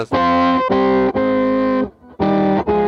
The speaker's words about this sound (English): I have this Electro-Harmonix C9. It's like an organ pedal because we have some songs.